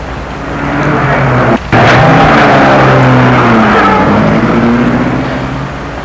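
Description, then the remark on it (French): A car engine hums and rises in pitch as the vehicle pulls off, its steady drone gradually fading as it drives away, with a brief dull knock early on. “Il la regarde entrer chez elle. Il s'en va.”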